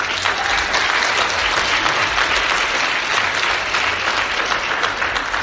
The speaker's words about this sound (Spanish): Oye, al fin hace rato que no aplaudían, no estaban como pegados a la pared